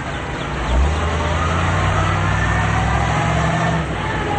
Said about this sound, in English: Rounding a corner, they drive through town.